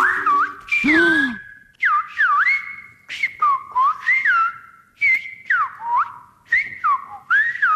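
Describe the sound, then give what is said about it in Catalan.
Loud whistled speech in Silbo Gomero, the ancient whistled language of La Gomera in the Canary Islands, with long gliding and swooping pitches broken into phrase-like bursts over several seconds, and no talking. “Bueno, és un llenguatge antiquíssim que al voltant de 20.000 persones coneixen a l'illa canària de La Gomera.”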